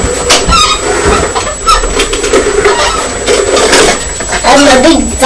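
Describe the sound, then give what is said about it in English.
A manual carpet sweeper rolls steadily across carpet, picking up petals and bits, a continuous whirring rattle with brief squeaky tones as it is pushed forward and back, and voices can be heard faintly under it. “You're using the carpet sweeper, aren't you? Keep it on the floor.”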